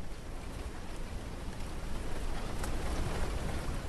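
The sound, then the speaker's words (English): Steady wind rustles through dune palm fronds near Djibouti in East Africa, a dense, continuous hiss and patter that sounds much like falling rain, swelling slightly partway through. No voices. “A wind blows through the dune palm fronds. If you listen hard enough, it sounds almost like rain.”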